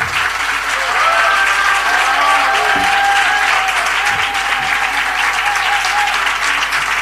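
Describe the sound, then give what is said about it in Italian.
Steady, dense applause from an audience near the end of a concert, applauding the accompanist, fills the whole stretch at an even loudness, a continuous crackle of many hands clapping, with a faint whistle-like tone briefly rising above it. “Ci avviciniamo verso la fine del mio concerto e, come si usa in questi casi, però ho il piacere di chiedervi un applauso per Gianluca Segato che mi ha”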